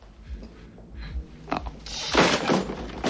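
A loud crash erupts partway through as a person crashes across a kitchen, followed by a sustained clatter of objects smashing and breaking, with no voices heard.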